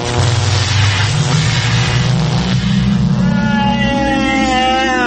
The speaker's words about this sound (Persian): بریم ببینیم آرتا ماشین زمان رو روشن کرده، امروز با این ماشین زمانه کجا میبردش؟